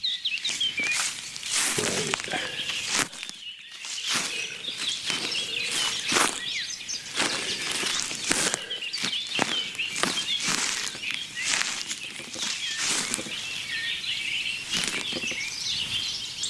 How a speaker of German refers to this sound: Und ich mache jetzt mal Schritte. Moment. Ihr könnt mitzählen. Das war der erste.